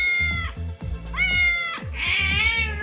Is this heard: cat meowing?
yes